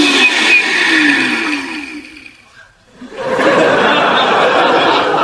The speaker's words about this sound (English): You can turn off the blender.